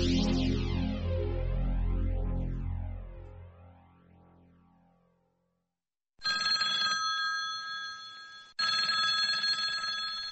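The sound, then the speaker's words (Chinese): An old-style telephone bell rings loudly in two long, rattling bursts, preceded by a fading, resonant metallic tone and a brief silence. No one speaks. It is a late-night phone call in Taiwan on 15 December 1978. “1978年12月15号深夜的一通电话，改变了台湾的命运。”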